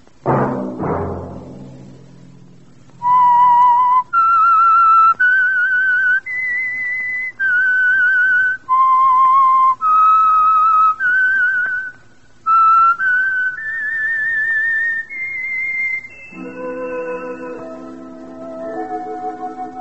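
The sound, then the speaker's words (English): A clear melodic whistle carries a slow theme tune, a sequence of held notes rising and falling, before lower sustained musical tones take over near the end. “Let that whistle be your signal for the Signal Oil program, The Whistler, each Sunday night at the same time.”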